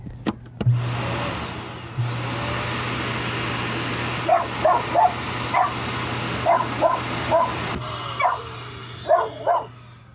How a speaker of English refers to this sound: So my favorite feature in this RV is that it has a built-in vacuum. And you can sweep the main floor into the stair. It turns on.